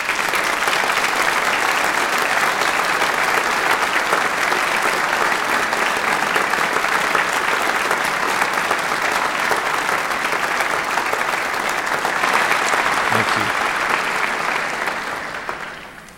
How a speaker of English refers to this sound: I invite the audience to give all of our graduates a round of applause.